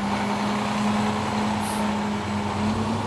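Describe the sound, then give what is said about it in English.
A bright white rear loader garbage truck, provided by the host landfill, drones steadily as it leads off a rear loader driving competition, a constant low rumbling hum that holds without pause for the whole stretch, with no voices. “Driver Brian Stahl, in the bright white garbage truck provided by the host landfill, leads off the rear loader competition and makes more of a mess than the ones he's used to cleaning up.”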